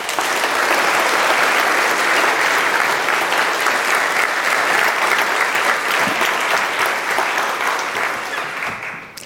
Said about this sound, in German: Und deswegen einen herzlichen Applaus für